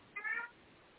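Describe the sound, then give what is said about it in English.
A single short cat meow, soft, rising and falling over about a third of a second, then quiet background with no talking. “and I hear that we get to have a cat serenade in the background.”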